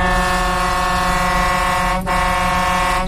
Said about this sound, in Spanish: Así suena la bocina del camión de Roberto.